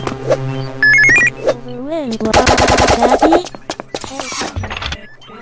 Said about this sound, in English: There's bells.